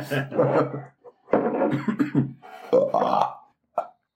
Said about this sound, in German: Wenn es mundet, muss man rülpsen.